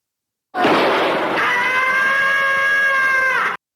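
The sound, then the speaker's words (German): A loud, sustained cartoon cat scream, the characteristic scream of Tom from Tom and Jerry, lasting about three seconds, starting with a harsh burst and settling into a shrill, wavering howl with strong harmonics before cutting off abruptly. “Ja, und da hättet ihr doch, das ist doch der charakteristische Schrei aus Tom und Jerry.”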